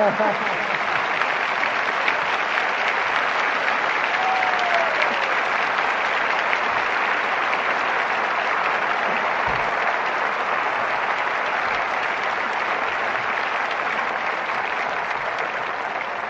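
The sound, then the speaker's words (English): Sustained audience applause at a crusade service in Jackson, Mississippi, welcoming Ethel Waters, fills the whole stretch, a dense, steady wash of many hands clapping at an even loudness without letup. “You know, first of all, I got to share this applause with them children.”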